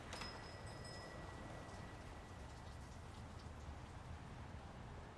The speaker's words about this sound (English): The rain stops.